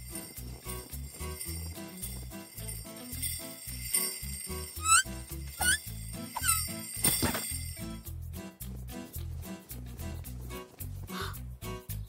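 A small sledge bell jingles in a few bright, tinkling bursts over steady background music, with a light chirping sound mixed in partway through.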